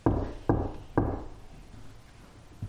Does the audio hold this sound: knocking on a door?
yes